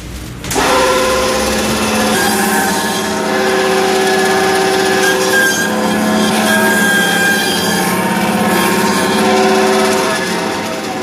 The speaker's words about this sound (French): C'est la ventrèche du veau. C'est le tendon. Alors, je l'ai passé à la scie, ça fait pas très, très traditionnel, cette histoire-là. Mais c'est pour éviter les éclats d'os.